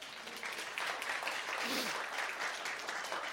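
Steady applause from a crowd, a dense, even crackle of many hands clapping at once, holding at a constant level for a few seconds with no voices standing out.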